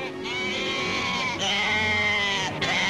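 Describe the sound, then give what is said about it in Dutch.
Several sheep bleat loudly at a large sheep market held during a heath week, their wavering cries overlapping almost continuously with brief breaks, like a crowded pen of animals calling at once. “De speciale dag van het schaap, die tijdens de heideweek op touw gezet was, begon met een grote schapenmarkt.”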